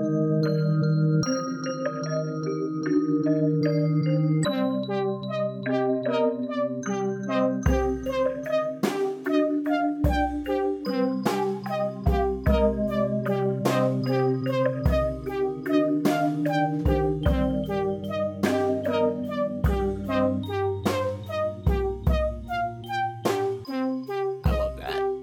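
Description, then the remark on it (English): Eerie chime music plays on its own, bell-like tones ringing over sustained low notes, with deep pulsing bass hits joining partway through and steady loud volume throughout. “some chime music. Exactly. Spooky music, take us out.”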